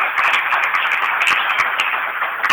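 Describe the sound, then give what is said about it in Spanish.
A crowd at an event in Brinkmann applauds steadily to welcome Silvio Gargolino, communal president of Melincué: a dense, crackling wash of many hands clapping at once that stays fairly loud and even from start to finish, with no voices standing out. “Le damos un aplauso también.”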